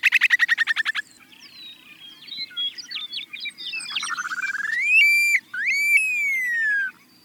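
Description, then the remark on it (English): An upland sandpiper calls alone: a quick run of rhythmic bubbling notes, a scratchy chatter, then a loud, drawn-out whistle that sweeps upward and slides slowly back down. “because upland sandpipers have one of the best all-time calls in the bird world.”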